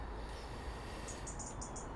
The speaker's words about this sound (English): I can hear wee Mr. Wren off to the right. Something bugging him. Probably another intruder. Here he comes, he's coming all the way around.